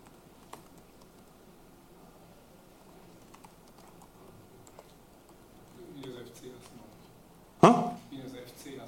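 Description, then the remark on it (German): Sparse, faint clicks of someone typing on a computer keyboard, irregular, with a brief voice murmuring near the end and one sharp louder knock. “Nee, ich glaube, ich kann hier schlecht tippen.”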